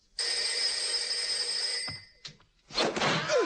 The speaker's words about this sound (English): Inspector Clouseau's residence. The phone is ringing.